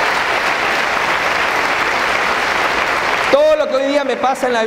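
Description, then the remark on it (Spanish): A crowd applauds loudly and steadily for several seconds for the speaker's sponsor, a dense wash of clapping that cuts off abruptly as a man begins speaking into the microphone. “al cual le he pedido un tremendo aplauso”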